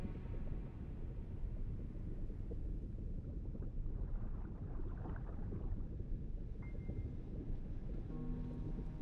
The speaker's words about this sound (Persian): یه عنصر هنوز بیداره. به صدای باد گوش کن. زمین هنوز زنده است.